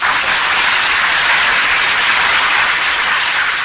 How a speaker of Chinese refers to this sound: 你说对不对啊？对就鼓掌嘛，对不对？